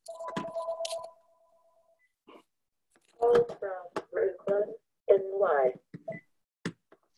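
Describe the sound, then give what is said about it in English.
A steady electronic ring from another phone in the background sounds for about a second, clear, then stops. After a short pause a person starts talking, in bursts separated by brief gaps. “Sorry, I have another phone ringing in the background.”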